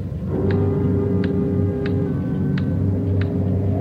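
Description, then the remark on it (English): A clock ticks loudly and steadily, five sharp even ticks about two-thirds of a second apart, over a constant low rumble of wind on a windy day, with no one speaking. “Sure a loud clock.”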